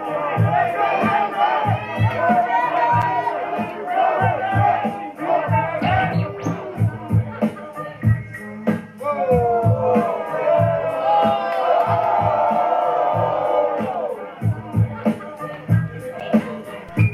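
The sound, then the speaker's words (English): A loud crowd at a battle taunts and jeers a competitor continuously, many overlapping voices hollering and whooping at once with rhythmic, chant-like bursts, the din staying dense and raucous throughout. “The crowd began to taunt him.”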